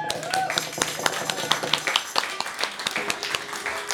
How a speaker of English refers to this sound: Round of applause.